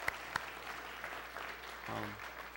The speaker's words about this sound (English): Well, I didn't want any applause. Thank you.